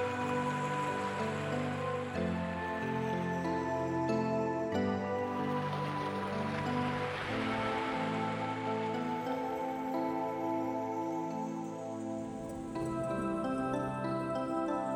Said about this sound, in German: hörst du das Wasser, die Wellen leicht rauschen.